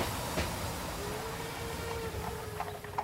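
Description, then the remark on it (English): A train rumbles steadily along the rails, with a few sharp clanks and a faint thin squeal riding over the low, continuous roar. There is no talking. “Watson and Sir Henry get off the train at Devonshire Station.”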